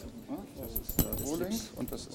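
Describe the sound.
Metal keys, a key blank and a finished key, clink and jangle, with one sharp chink standing out, while a man talks over the rattling.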